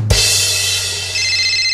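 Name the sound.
phone ringtone ringing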